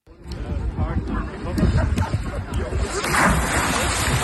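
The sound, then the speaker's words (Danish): A person plunges into water with a broad, rushing splash that swells around the middle, followed by churning water, with a murmur of voices in the background. “Og det var to meget forskellige plask.”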